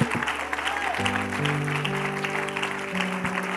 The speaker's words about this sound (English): If you love your pastor, let him know by giving a great big hand clap.